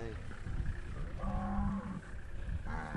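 Cattle moo loudly, one long drawn-out low call in the middle and another starting at the end, over a rumbling outdoor background with no talking.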